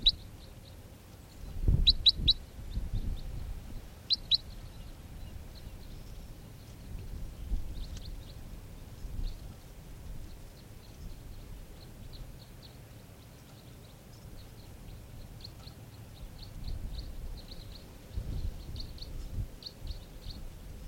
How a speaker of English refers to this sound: Wild birds are coming in right now.